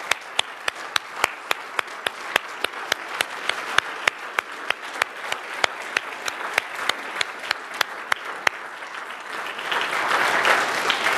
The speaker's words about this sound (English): I think we should stand and give him an applause for that, don't you? Amen. Praise the Lord.